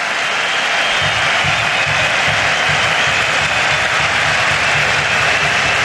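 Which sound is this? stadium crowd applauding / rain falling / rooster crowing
stadium crowd applauding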